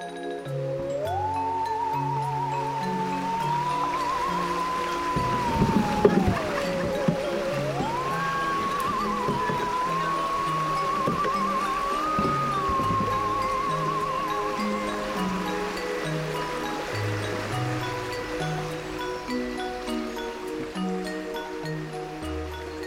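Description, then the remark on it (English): A steady, continuous rush of flowing river water at the north end of Hay on Wye fills the background while a sustained melodic tune with a slow, stepping bass line plays over it throughout. “I've come to the river at the north end of Hay on Wye to meet veteran parliamentarian and writer Roy Hattersley.”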